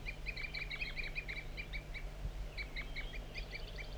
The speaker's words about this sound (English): Stop. Tooping by the wild bird again. Mostly the wild bird. Continuous toop.